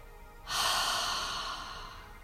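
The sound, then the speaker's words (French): A slow, steady exhale through the mouth after the breath is held, a soft airy whoosh that begins after a brief pause and trails off gradually over about two seconds, fairly quiet. “Expire par la bouche avec le son de”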